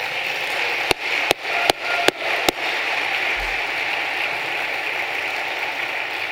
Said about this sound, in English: I asked some doctors last week if you could spread coronavirus by clapping, and they said no. And so I decided that we should start clapping more.